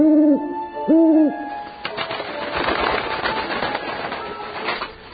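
An owl on its branch gives two loud, drawn-out hoots in quick succession, each rising and falling in pitch, followed by a steady wash of rustling, hissing noise.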